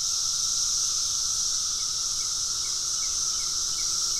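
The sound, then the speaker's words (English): A steady, loud, high-pitched electric drone of male cicadas, red-eyed with black and orange bodies, singing together using the timbals under their wings: an unbroken buzzing wall of sound with a fainter lower band running beneath it, and no voices. “The males start singing their hearts out using these mechanisms under their wings called timbals.”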